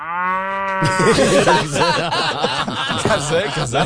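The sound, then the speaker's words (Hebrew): A single long, drawn-out cow moo sound effect, played by a radio technician into a news host's headphones, sounds loudly, then dissolves into a burst of animated talking and chuckling voices that carry on over the rest. “עכשיו, כל הטכנאים יודעים שאם אני בחדשות, ואפשר לשים לנו, אתה יודע, באוזניות דברים שהמאזינים בחוץ לא שומעים, הדבר שהכי מצחיק אותי זו פרה.”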